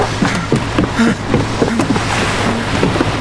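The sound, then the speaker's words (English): A boat being cast off from a pier by two men: a steady low motor rumble with rhythmic knocks and water sloshing, continuous throughout with no voices. “He watched the two men nervously casting off the boat under Rose's glowing eyes.”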